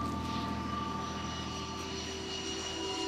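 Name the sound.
airplane engine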